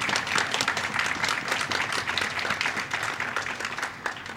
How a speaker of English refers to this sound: First of all, I want to ask if you served in the military, either stand or raise your hand, please. If any of you served, let's give those folks a round of applause.